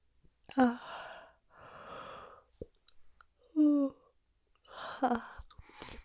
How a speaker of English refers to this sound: Little yawns to get us started.